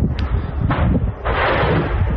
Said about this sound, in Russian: Появилось и видео вот таких вот взрывов, если вот, обращаясь к нашим редакторам, если готовы, давайте посмотрим, как детонировало вчера в Бердянске. Вот это БК уже пошел.